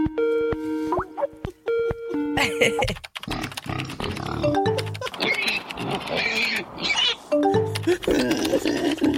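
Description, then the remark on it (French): Animated characters from the original version of Peppa Pig trade exaggerated pig snorts and oinks between bits of high, sing-song cartoon dialogue, with a couple of short tonal chimes at the start; the snorting is loud and repeated. “Parce que non, la version française, mais oui, quand ils parlent en cochon.”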